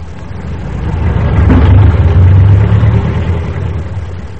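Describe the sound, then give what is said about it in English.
A car's engine rumbles past on a road outside a roadside store, the low drone swelling to a peak midway and then receding, with steady traffic noise behind it and no voices. “This evening we find them in the store, Ebb kneeling on the floor painting a sign, and Zeb leaning against the door jamb watching traffic flow past.”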